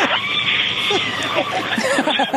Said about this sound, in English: Hear that screaming inside the capsule?